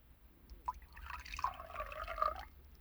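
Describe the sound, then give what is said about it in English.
Black coffee being poured into a cup, a steady liquid stream with bubbling, rising tones as the cup fills, fairly quiet, with no voices. “Why don't you drink some black coffee? Here, I'll pour you a cup.”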